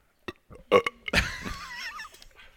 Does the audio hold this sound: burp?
yes